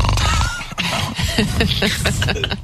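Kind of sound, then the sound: vocal imitation, imitated snoring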